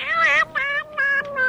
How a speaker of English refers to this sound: Lost cats who want their mama.